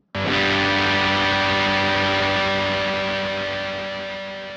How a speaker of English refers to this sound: And one of my favorites, a very recognizable tone, distortion.